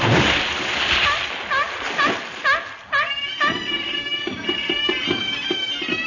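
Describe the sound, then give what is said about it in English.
Loud splashing and sloshing water with a run of short, rising honking barks from a seal, followed by steady droning tones that continue after the splashing stops. “You imposter, that's a seal.”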